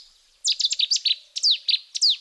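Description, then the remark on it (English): A Cetti's warbler, a secretive little brown bird, bursts into song: a loud, explosive series of rapid, sharp chirping notes, delivered in quick rhythmic pulses with a brief pause mid-phrase, no voices present. “In the case of the Chetty's warbler, it took centuries to match the secretive singer to its disembodied song.”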